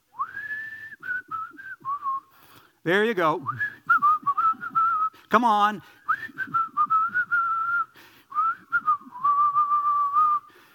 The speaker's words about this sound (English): But the best whistling song ever recorded, the best whistling song ever recorded was recorded in 1988. And if you know it, you can whistle along with me.